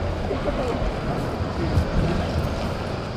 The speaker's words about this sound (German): Ja, wir starten diese neue Serie mit Geräuschen vom Bahnhof.